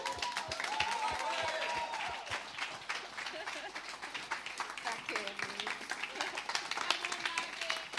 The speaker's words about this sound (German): Also klatschen wir.